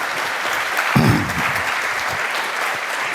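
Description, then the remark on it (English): An audience claps steadily for a speaker being introduced at a talk on ethical hacking, a dense patter of many hands at moderate volume, with a brief low rumble or thump near the start and no voices. “So give it up, an applause”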